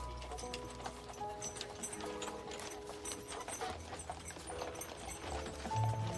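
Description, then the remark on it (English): Horse hooves clip-clop steadily as a carriage rolls along past a field with sheep and lambs, a continuous run of crisp, evenly spaced hoof strikes over a low rumbling background, moderately loud. “After a while, the carriage took us by a field with sheep and lambs.”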